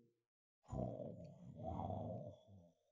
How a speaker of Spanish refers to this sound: ¿Un rugido de león? ¿Cómo? ¿Rugido de león?